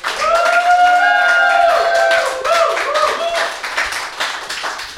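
A burst of dense applause, many hands clapping together while voices whoop and cheer over it early on; the clapping stays steady and gradually thins out toward the end.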